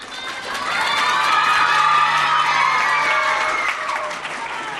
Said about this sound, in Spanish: Son el Colegio Sagrado Corazón, Agustino Recoletos, Público Badiel y San Pedro Apóstol. Chicos, chicas, de esos tres centros educativos, queremos un estruendo de aplausos en este momento.